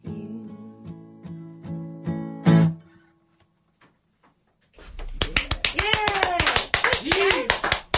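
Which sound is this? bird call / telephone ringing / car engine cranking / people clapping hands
people clapping hands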